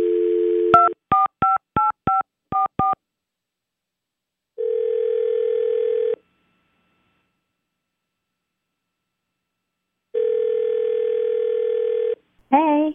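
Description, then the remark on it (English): A brief dial tone gives way to a quick run of seven touch-tone beeps, then two long ringback tones spaced by silence, before a voice picks up right at the end. “why don't we call … in just a minute”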